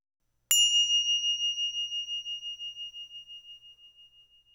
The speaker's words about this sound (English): As you hear the sound of the bells, this signals the end of the mindful movement experience.